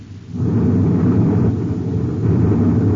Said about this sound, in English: He's on our tail. He's firing cosmic torpedoes. Yeah, now we'll have to use evasive action.